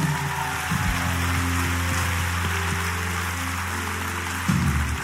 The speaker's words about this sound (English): For all of those who just placed their faith in Christ, first of all, let's clap our hands one more time for them.